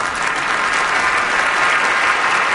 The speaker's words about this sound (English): Thank you. I appreciate the applause.